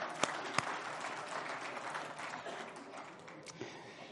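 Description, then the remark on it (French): A crowd applauds steadily, a dense wash of many hands clapping with a few sharp louder claps standing out, sustained for about four seconds at moderate level. “Hey, on s'applaudit, vous êtes bons?”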